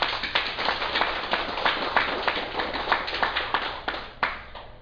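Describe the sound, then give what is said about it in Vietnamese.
A Buddhist assembly applauds steadily, many hands clapping in a dense, continuous patter that holds at an even level for several seconds, with a few sharper claps standing out near the end. “Thành vì vậy mình cũng nên vỗ một tràng pháo tay.”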